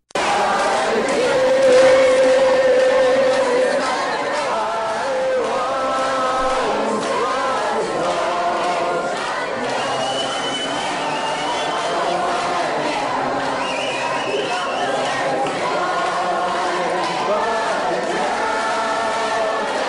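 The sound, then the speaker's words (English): A crowd of abortion supporters chants and shouts together, hailing Satan, in a steady, rhythmic stream, with overlapping chatter and occasional higher-pitched calls rising above the dense, continuous noise. “But you hear some chanting.”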